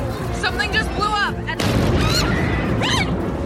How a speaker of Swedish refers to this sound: Ingen hinner riktigt uppfatta vad det är som har hänt innan det smäller igen.